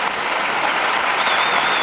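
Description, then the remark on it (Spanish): Sustained audience applause, a dense, steady wash of many hands clapping at even loudness throughout, with no voices standing out above it. “Por favor, todos, un aplauso a todos y todas las ruinas.”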